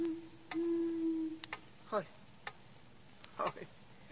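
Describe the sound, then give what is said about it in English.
An owl hoots at night: a single long, low hoot holds steady for about a second, followed by a few sharp clicks and two brief warbling, wavering calls over a faint background hiss. “It must have been an owl.”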